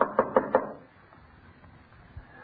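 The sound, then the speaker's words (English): Four quick, evenly spaced, solid knocks on the wooden door of a house, followed by quiet background with a faint thump near the end. “I had to knock.”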